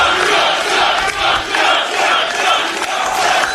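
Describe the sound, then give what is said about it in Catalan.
A large rally crowd cheers and roars continuously for Donald Trump as he celebrates his first victory, in Iowa, a dense wash of many voices swelling and dipping in loudness over a few seconds, with no single speaker standing out. “Quina rebuda, quanta gent.”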